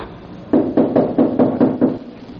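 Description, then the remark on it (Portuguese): Someone knocks on a locked connecting door about seven times in a quick, steady series of solid, loud thumps, with no talking, then the knocking stops. “Estão batendo na porta de comunicação.”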